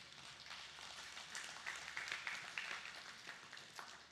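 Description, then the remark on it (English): A church audience claps together in a steady wash of applause, many hands blending into a dense patter that holds for several seconds at a moderate level. “I told the 9 o'clock, they clapped. Y'all did a little bit better, but I told them, I'm like, y'all know good and darn well.”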